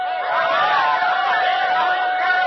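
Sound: crowd cheering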